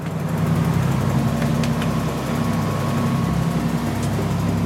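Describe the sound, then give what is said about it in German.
The engine of a small, aging orca-research boat roughly 10 meters long drones steadily at sea, a low constant rumble with a faint hum and occasional light clicks, and no voices. “Ich bin auf dem Meer unterwegs mit Orca-Forscher Renaud de Stefanis. Wir sind auf dem Boot seiner Organisation.”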